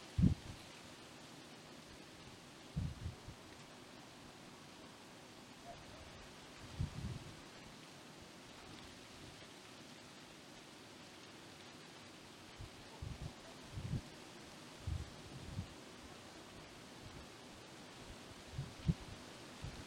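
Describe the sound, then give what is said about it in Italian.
Wind blows steadily through foliage with a soft, constant rustle. Occasional low gusts thump in over about twenty seconds, and the whole scene stays quiet, with no one talking. “È un vento mistico.”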